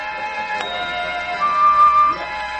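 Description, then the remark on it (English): A short, dreamy transition music cue for 3 o'clock in the afternoon, Pacific Coast time, with no daylight saving, of sustained, shimmering tones that swells slightly toward the end before fading, heard alone with no voices. “Okay, boys, 3 o'clock in the afternoon Pacific Coast, no daylight saving time daydream music.”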